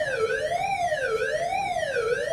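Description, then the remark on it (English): A tornado drill warning siren at a school wails steadily, its pitch sweeping up and down in smooth cycles about once a second, loud and continuous with no voices over it. “Hearing the siren really just kind of sent Ella into that state of all-consuming fear.”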